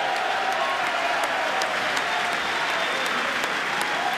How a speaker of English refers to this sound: That getting a cheer now from Republicans in the chamber.